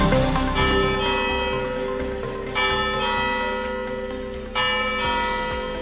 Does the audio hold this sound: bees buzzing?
no